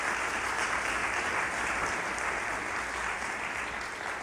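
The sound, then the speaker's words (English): A crowd at Emmanuel applauds steadily to welcome missionaries who serve First Nations people in far northern Canada, a dense, even wash of many hands clapping at a constant loudness for several seconds with no voices standing out. “And let's give them a round of applause as we welcome them.”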